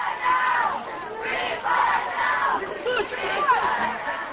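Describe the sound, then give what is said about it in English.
About 40 Jewish protesters greeting Mrs. Bush at the Western Wall shout the slogan "Free Pollard now" in unison, the chant rising and falling in repeated rhythmic bursts over a steady wash of overlapping yelling and chatter. “About 40 Jewish protesters greeted Mrs. Bush at the Western Wall, Judaism's holiest site.”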